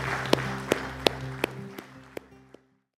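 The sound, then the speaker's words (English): Crowd applause closing a prayer in celebration of salvation: a broad wash of clapping punctuated by sharp claps on a steady beat, over sustained low musical tones, fading out after about two and a half seconds. “Let's applaud what God is doing with salvation around the world.”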